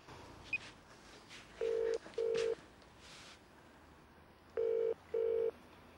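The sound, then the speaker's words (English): A mobile phone call ringing out: after a single brief keypad beep, two pairs of steady double-pulse ring tones sound clearly over quiet background noise, with no one speaking. “I'll phone her then, shall I?”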